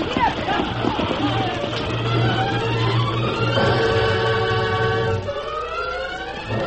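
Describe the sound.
A wagon train of horse-drawn wagons rolling along toward a river, hooves clip-clopping amid a dense, steady clatter and low rumble, with voices calling out and a rising, drawn-out cry near the end before the noise eases.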